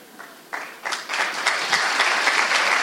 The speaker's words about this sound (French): Encore un cadeau du Seigneur. On peut applaudir un cadeau du Seigneur.